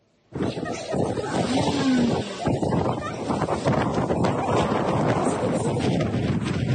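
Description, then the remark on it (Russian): Loud, blustery squall wind roars steadily during a snowstorm brought by a powerful cyclone over Magadan Oblast, Russia, buffeting the microphone with rough gusts that barely let up, with a faint rumble underneath and no voices. “Мощный циклон сместился на Колыму из Хабаровского края и обрушил на Магаданскую область снежные заряды и шквалистый ветер.”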